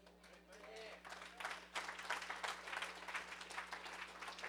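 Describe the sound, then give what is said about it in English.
An audience claps steadily, a dense patter of many hands sustained for several seconds, fairly loud, with a faint hum underneath and a few indistinct crowd noises mixed in. “They clap first.”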